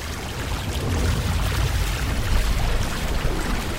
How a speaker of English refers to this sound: Dang it. No other way out of here. That water's rising fast.